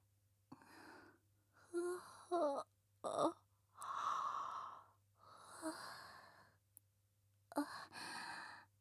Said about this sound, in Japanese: ごめんなさい、ゆっくりできると思ったらあくびが。